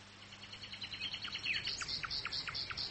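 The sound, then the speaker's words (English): A bird sings continuously in the afternoon in a rapid series of high, bright chirping notes, steady and rhythmic, fairly soft over a low background hum, with no voices. “That bird's been singing all afternoon.”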